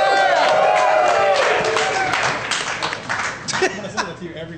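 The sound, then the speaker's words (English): A live audience cheers and claps, with whoops and sustained applause fading over a few seconds, voices mixed into the crowd noise. “And this is a mellow crowd, and I like it.”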